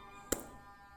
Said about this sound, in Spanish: Escuchas cómo se cierra la puerta.